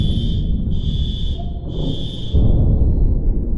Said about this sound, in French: Coupure des alarmes sonores.